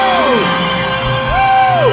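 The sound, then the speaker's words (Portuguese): An audience shouts and cheers together, with whooping voices rising and falling over a dense wash of noise, loud and sustained for a couple of seconds. “E quem gostou do Paraná, levanta a mão e dá um grito!”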